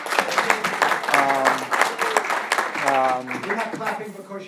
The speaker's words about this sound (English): You're not clapping because you were away. I assume you're clapping for my wife, actually.